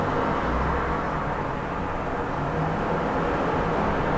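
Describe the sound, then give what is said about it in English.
A steady, loud rumble of heavy truck convoys from a Marine base and RV rental fleets rolling past in the daytime, deep engine and road noise filling the whole stretch without a break. “When the trucks come by.”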